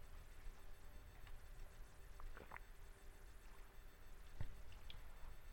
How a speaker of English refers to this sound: Let me get a little drink of water here.